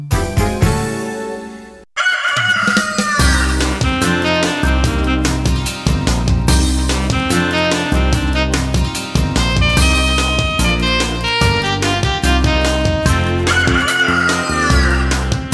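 A rooster crows loudly once at the start, then gives way to bright, upbeat music with a steady bouncing beat that carries on to the end.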